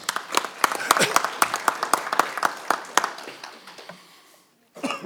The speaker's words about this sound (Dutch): Dus applaus namens uw collega's.